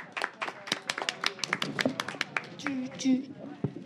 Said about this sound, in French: On applaudit bravo, bien fort. Bravo, bravo.